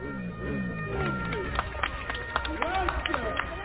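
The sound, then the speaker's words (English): Scattered, uneven clapping from passers-by gathered on the street as Matteo Messina Denaro is arrested, growing busier partway through, mixed with overlapping chatter and raised voices. “You can hear the applause of passers-by gathered on the street when he got arrested.”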